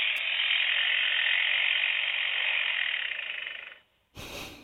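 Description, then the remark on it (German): A starling imitates construction-site sounds, mimicking a jackhammer with a harsh, rapid buzzing rattle that holds steady for almost four seconds and fades, followed by one short, noisy burst. “Ein Presslufthammer.”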